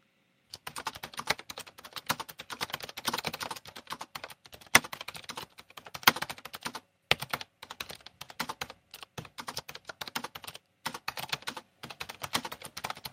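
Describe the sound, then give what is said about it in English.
Rapid, uneven clatter of someone typing on a computer keyboard, with dense bursts of keystrokes broken by brief pauses. No voices are present. “Let me type type something, and so you guys can hear this glorious.”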